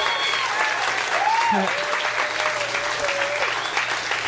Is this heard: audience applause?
yes